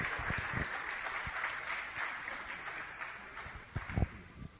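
A crowd at a Hare Krishna talk claps steadily throughout after a question is answered, a dense wash of hand claps at moderate loudness with a few sharper, louder claps standing out near the end.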